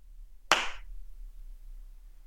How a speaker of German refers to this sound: Jetzt darfst du klatschen.